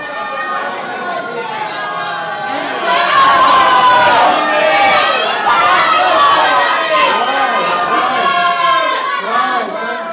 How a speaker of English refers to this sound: I'm going to have to adjust my hearing aids, though, in the end. Come back and people shout again.